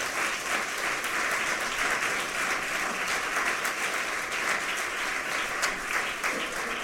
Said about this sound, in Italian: Vi chiederei subito un applauso per cominciare.